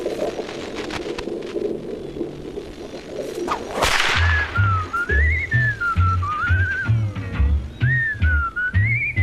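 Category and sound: signal or alarm, whistle being blown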